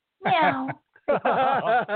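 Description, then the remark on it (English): Two loud cat meows, the first a short drawn-out cry, the second longer and wavering like a yowl, separated by a brief pause. “Listen, guys, you know, a little friendly competition, meow, never really hurt anybody.”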